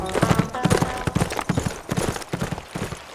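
Horse hooves pound in a fast galloping rhythm as a rider gallops toward Sweet Apple, clusters of heavy thuds repeating steadily for a few seconds with no voices over them.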